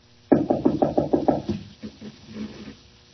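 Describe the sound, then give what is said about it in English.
Seven quick, heavy knocks pound on a locked wooden door in a steady rhythm, followed by softer scraping and rattling as the handle is tried, with no voices. “Locked. I thought that, too. Yet there is someone inside. I can hear him breathing. Open up, please. Open this door.”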